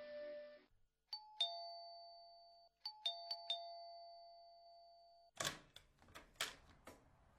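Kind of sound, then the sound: household object, doorbell ringing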